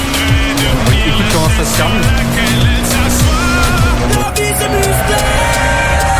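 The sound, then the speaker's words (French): A loud car sound effect used as a crash test jingle: a revving engine with squealing, skidding tires and swooping pitch sweeps that run continuously for several seconds, while a voice speaks briefly over it. “C'est mon crash test,”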